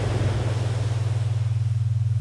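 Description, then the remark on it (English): A focus app set on concentration mode plays brain-wave audio: a low, steady droning tone that throbs in a fast, even pulse over a soft wash of ambient noise that thins out toward the end. No one speaks. “And actually just crank up the brain waves and lower the ambient noise.”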